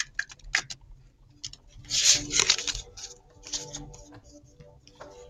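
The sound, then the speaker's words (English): A deck of cards with green backs showing an angel is shuffled for a life purpose reading, a run of crisp riffling and rubbing flicks, with a denser, louder burst of papery rustle in the middle before settling into lighter taps. “I'm shuffling these beautiful cards, and we're going to see what type of life purpose the cards hold for”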